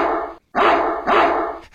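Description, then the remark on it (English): A dog barks along to a song as its owner coaxes it to sing, in three long, drawn-out, almost sung bursts separated by brief pauses, followed by a short trailing yelp. No one speaks. “Come on, Spot. Come on, sing it for me. That's it. Good boy.”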